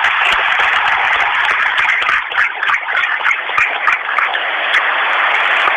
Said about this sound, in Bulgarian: Предполагам, че тези ръкопляскания са за това, че той е доктор по право.